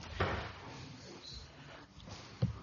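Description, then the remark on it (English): Two doors thud shut in a church, two dull knocks about two seconds apart, set against a busy murmur with faint indistinct voices in the background. “Do you want to check both doors are shut?”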